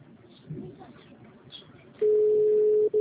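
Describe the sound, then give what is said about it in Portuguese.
A telephone rings with a loud, steady electronic tone that cuts in after two seconds of quiet background murmur, then breaks off briefly and starts again. “Atende o telefone.”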